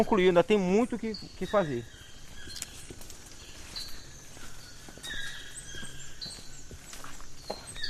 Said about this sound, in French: Vous connaissez le nom de cet oiseau qu'on entend? C'est un toucan.